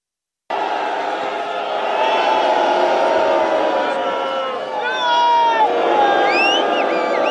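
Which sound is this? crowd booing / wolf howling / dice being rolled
crowd booing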